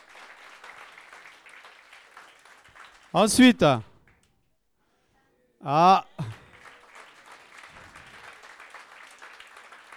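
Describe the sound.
A crowd claps steadily at a moderate level for Guirlande, who is absent, and the applause fades out as a voice speaks briefly. After a short pause and another spoken word, the clapping starts up again and continues.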